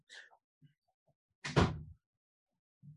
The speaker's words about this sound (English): Now, close the door, please.